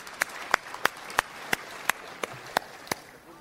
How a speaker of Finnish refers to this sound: Ja kaikkein suurimmat aplodit. Ja nyt minä en tyydy aivan tuollaisen pieneen aplodiin.